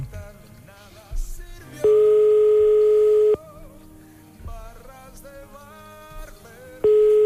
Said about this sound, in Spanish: A ver si nos cogen el teléfono. Venga. A la primera va a ser complicado, que cojan el teléfono.